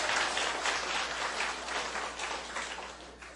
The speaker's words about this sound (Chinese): 好好，感谢主，我替他们鼓掌。